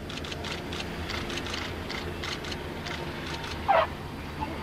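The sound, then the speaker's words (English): A De Havilland Hornet Moth biplane landing at St Athan, its piston engine a steady low drone under broad rushing noise, with a brief high chirp near the end and no talking. “De Havilland Hornet Moth landing at St Athan this morning,”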